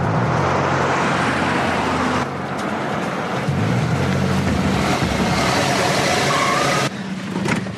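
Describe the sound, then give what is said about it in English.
A car engine hums steadily with loud road noise, the tone shifting a couple of times as the car slows and parks in a remote, empty parking lot where one other car is parked. No one speaks. “parks on a remote and empty parking lot. There only is one other parked car.”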